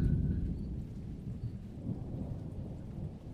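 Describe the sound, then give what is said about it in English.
A thunderstorm rolls on with a deep, continuous rumble of thunder over a steady wash of heavy rain, loud, with no voices. “Why didn't you message me that it was going to be rained out?”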